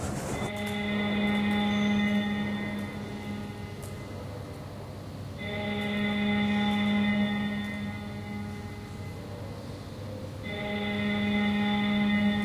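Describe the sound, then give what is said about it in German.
A Bundestag plenary session bell for deputies, heard at 18:30, sounds three long, steady, humming tones, each lasting several seconds and repeating at even intervals, loud and unaccompanied by any voices. “das ist die Klingel für die Abgeordneten, die jetzt eine Sitzung haben”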